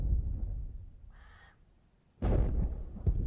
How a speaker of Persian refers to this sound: حیوانات صدای وحشتناک شلیک توپی را از سمت ساختمان شنیدند